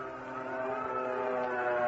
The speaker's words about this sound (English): What's that? That signal red, the alert. That means we spotted the enemy planes coming over.